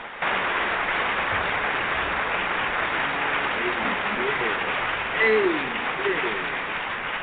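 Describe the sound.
Sustained, dense applause from a church audience welcoming a woman speaker, steady and loud throughout, with a few cheers and faint voices rising through the clapping near the end.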